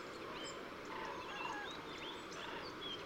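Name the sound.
bird calls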